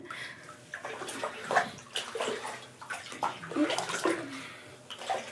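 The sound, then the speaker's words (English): Bath water with bubbles sloshes and splashes in irregular surges as someone gets into a tub after adding more hot water, with several louder swishes and drips over a steady watery backdrop. “Let me just put the hot water a little bit more. There, I think it's all better now. Okay, now let me hop in.”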